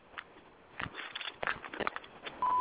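A series of soft clicks and taps over a thin, muffled phone-line hiss, ending in a short, steady electronic tone like a telephone dialing or connecting.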